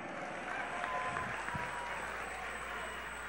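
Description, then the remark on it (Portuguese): Steady applause from a large crowd of people of Rio Grande do Norte, Brazil, at a morning event, applauding President Luiz Inácio Lula da Silva; dense and continuous clapping with a faint murmur of voices underneath, moderately loud and sustained throughout. “quero ver a alegria, a euforia do povo do Rio Grande do Norte dando uma salva de palmas ao melhor presidente da República que esse país já teve, Luiz Inácio Lula da Silva.”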